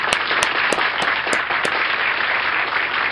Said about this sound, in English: That is awesome. We gotta clap for him, right? We always clap for our good news.